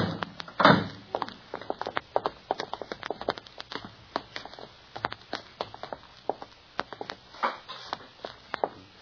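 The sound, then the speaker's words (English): A car door shuts with a solid thunk near the start as Perry Mason and private detective Paul Drake get out of Mason's car in front of Mrs. Dooley's rooming house in Smithville, mid-morning, followed by a long run of quick, light knocks and taps, like footsteps and small movements, with no voices. “As in the town of Smithville, Perry Mason and Private Detective Paul Drake get out of Mason's car in front of Mrs. Dooley's rooming house.”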